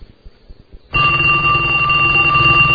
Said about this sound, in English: Phone. Mm-hmm. Well, maybe I'm doing something. I'm waiting for you to, you know, answer the phone.